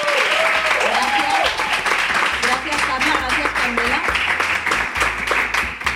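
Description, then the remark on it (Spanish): A crowd applauds steadily at the host's request, clapping for their companions, a dense wash of many hands clapping at once that holds loud for several seconds, with voices and cheering mixed underneath. “Madre mía, bueno, pues os voy a pedir un aplauso para vuestras compañeras porque van a dar todo.”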